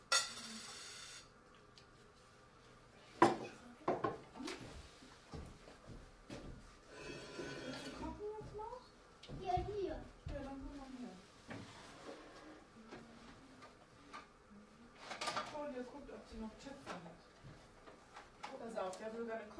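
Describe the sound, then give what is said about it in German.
Rummaging with clattering knocks, scrapes and a sharp bang as things are shifted around in a drawer or cupboard while searching for cooking pots, with brief mumbled speech in between. “Und wir hatten auch noch so Töpfe und so, wenn ich jetzt wüsste, wo die sind.”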